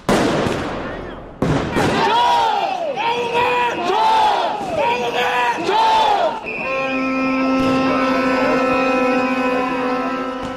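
A large crowd protesting alleged election rigging and the government's postponement of EU membership talks, which security forces try to suppress by force, shouts in loud, rhythmic chants with rising and falling voices, after a burst of noisy commotion, then a steady droning horn-like tone takes over beneath the crowd.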